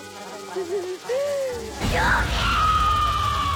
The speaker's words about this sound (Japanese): もう少し可愛らしい悲鳴をあげられるものか。